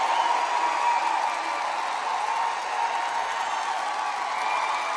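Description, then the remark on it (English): A large crowd at a Trump rally in Kentucky, where Rand Paul gives a speech for Andy Barr, roars and cheers continuously, a dense steady wash of many voices and clapping filling the space for the full stretch without any single voice standing out. “Big crowd, I tell you what.”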